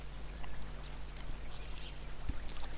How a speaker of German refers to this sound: Wenn du jetzt einmal genau hinhörst, dann kannst du in der Ferne das Geräusch von Wasser hören, das ganz leise vor sich hin plätschert.